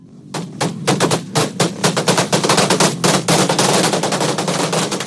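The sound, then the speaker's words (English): Rapid bursts of gunfire crackle continuously as thousands of demonstrators take to the streets of Caracas, Venezuela, amid tear gas, dense overlapping shots forming a loud, chaotic barrage with crowd noise underneath, no clear speech. “Thousands of demonstrators took to the streets of the capital with gunfire and tear gas erupting and troops loyal to Maduro firing water cannons at protesters.”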